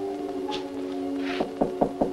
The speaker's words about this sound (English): His weathered brow wrinkles as he raps Slim's door with one knuckle.